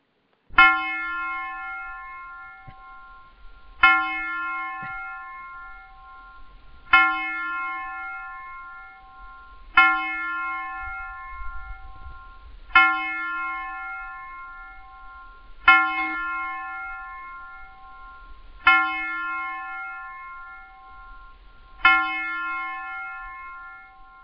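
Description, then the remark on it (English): A single bell is struck eight times at a slow, steady pace, about every three seconds. Each clear, ringing tone hangs and fades before the next strike, with no voices present. “I'm going to play a bell.”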